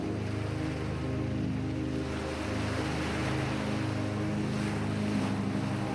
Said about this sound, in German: Vielleicht hörst du noch das Meeresrauschen im Nachgang, während du sanft ins Reich der Träume gleitest.